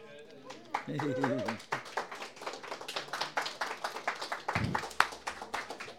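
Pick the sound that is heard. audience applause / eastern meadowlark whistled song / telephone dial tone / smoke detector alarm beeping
audience applause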